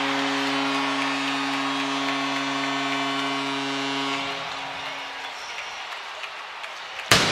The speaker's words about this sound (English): Well, there's the cannon, the first one of the night. 2:19 to go in the first period. The Blue Jackets take the 1-0 lead